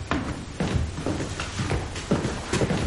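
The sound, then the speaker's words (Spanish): Steady footsteps thud down a set of indoor stairs at an even walking pace as a man leaves his father's room, each step a clear knock, with no talking. “Daniel se levanta y sale. Baja por la escalera interior.”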